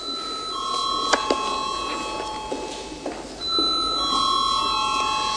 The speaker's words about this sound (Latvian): Paldies, lūdzu zvanu.